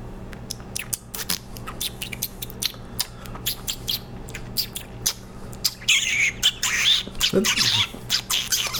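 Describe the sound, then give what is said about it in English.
Someone mimics a chickadee with their mouth as an entry in a bird-call contest: a run of quick, sharp clicks and ticks, then squeaky, high chirping whistles and a short falling squawk. “We're going to do bird calls.”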